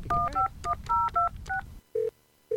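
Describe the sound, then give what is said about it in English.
A quick run of about seven cell phone keypad dialing tones, each a crisp dual-pitched beep, as a call is placed to an enrolled agent specializing in tax preparation, followed after a short pause by two lower, steady ringing tones on the line. “I need to make a quick phone call.”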